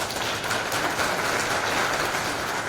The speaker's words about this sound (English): We couldn't be possible without the, you know, the community, so big round of applause for the organizers.